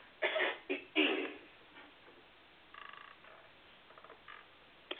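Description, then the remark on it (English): A person clears their throat with two loud, harsh rasps in quick succession, followed by softer, rougher throaty rumbles and a final short scrape. No one speaks. “Let me clear my throat a bit.”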